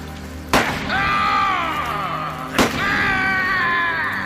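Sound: gunshot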